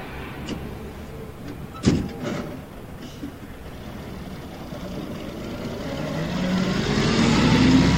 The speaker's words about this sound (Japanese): あ、バス来てるよ、ダッシュ。